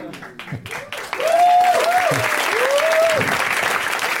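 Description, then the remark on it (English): An audience bursts into sustained applause, many hands clapping in a dense, loud wash that swells after a second and holds steady, with a few voices whooping above it. “Now is the point at which you clap excitedly.”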